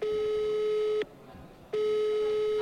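A telephone call tone as a quiz contestant uses a phone-a-friend lifeline: a steady, loud electronic beep lasts about a second, pauses briefly, then sounds again, with no voices over it.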